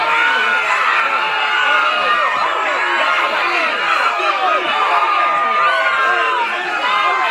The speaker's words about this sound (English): This is Terrified Crowd. So there it is. So there, screams, parentheses, man. That's it.